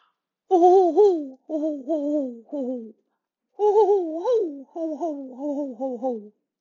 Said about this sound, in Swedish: Ja, det är en skogsduva, så vitt jag vet i alla fall.